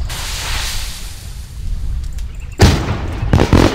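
Low rumbling hiss, then two sharp, loud bursts, like fireworks going off with crackling tails, the second following about a second after the first. No one speaks.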